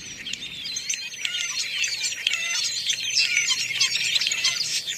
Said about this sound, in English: Imagine what the world looks like to a wandering flock of robins on a dreary winter day.